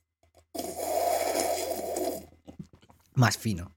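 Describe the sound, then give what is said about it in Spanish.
A loud slurp of a strawberry protein shake drawn through a straw, one steady sip lasting under two seconds, followed by a pause and a short spoken exclamation. “Había que indicar que era el sorbo murciano.”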